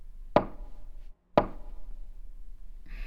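Two sharp strikes of a courthouse wooden gavel, about a second apart, each a crisp knock with a short resonant ring that fades quickly, with no talking between them.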